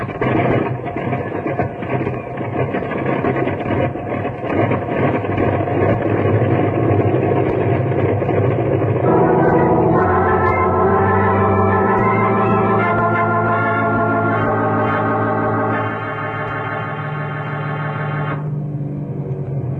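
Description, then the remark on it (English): The engine of an airplane setting off for a hospital drones steadily and loudly with a buzzing, harmonic tone, its pitch shifting upward partway through before settling into a slightly softer hum toward the end. “Now, you fellas look after the injured man, and I'll get the plane on its way to a hospital.”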